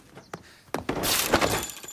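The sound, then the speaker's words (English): Wooden stage props from a play being smashed out in a garden: a few sharp cracking blows, then a loud, sustained splintering crash with clattering debris, with no voices. “Out in the garden, Peter is smashing all the props from the play.”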